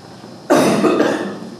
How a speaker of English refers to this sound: I'm going to cough now.